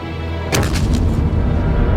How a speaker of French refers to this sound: Wow! Ils ont un canon, capitano. Ils ont un canon? Ils ont un canon? Wow! L'obus est tombé sur le vestiaire. Il a tout détruit. Distrutto tutto! Un obus a détruit le magasin d'habillement.